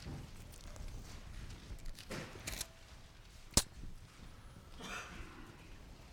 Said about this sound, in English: Still hear pages rustling.